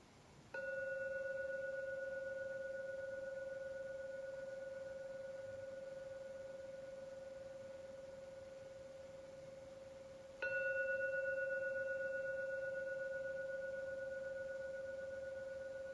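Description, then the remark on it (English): A Korean gong is rung during a meditation session, struck twice about ten seconds apart, each strike leaving a steady, mellow low-mid hum that rings on and fades slowly. No one speaks. “Keep your eyes closed until the last ringing vanishes, just to enjoy the sound of a Korean gong.”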